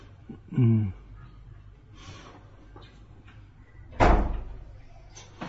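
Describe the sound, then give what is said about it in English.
A door gives a short, low squeaky groan as it swings, then a few seconds later shuts with a loud thud, with only faint background noise in between. “I suggest putting a little oil on the door so that every time someone comes in and out, we don't get the squeaking sound.”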